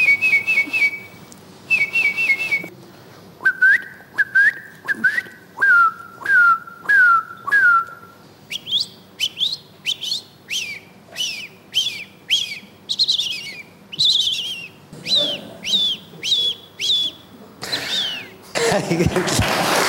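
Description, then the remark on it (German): A professional bird-voice imitator whistles a long series of bird calls, sharp rising and falling chirps in quick repeated bursts that shift in pitch from phrase to phrase, clear with no talking. “Ist kein Wunder, sind Menschen fasziniert von Vögeln, so fasziniert, dass es ein paar schon richtige Profis gibt, die Vogelstimmen imitieren.”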